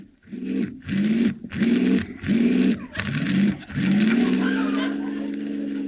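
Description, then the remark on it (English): A car engine cranks and sputters in five quick, loud bursts, then catches and settles into a steady running drone as it pulls away. “This car doesn't work very well. Start it again.”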